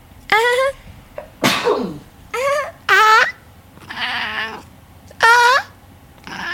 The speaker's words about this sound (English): Bless you. Thank you.